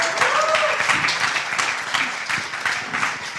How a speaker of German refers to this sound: Danke mal, Applaus.